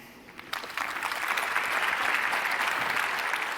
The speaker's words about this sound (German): Aber wie würde denn hier so in Leipzig bei, ich weiß nicht wie viel tausend Leuten das hier bestimmt alle sind, die ich nicht sehen kann, wie klingt denn bei euch so ein 5-Punkte-Applaus für so einen mittelmäßigen Text, der war so, okay.